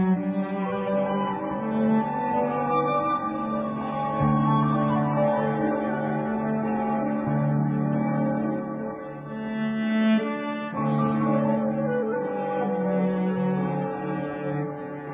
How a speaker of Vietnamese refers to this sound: Tiếng chuông đồng.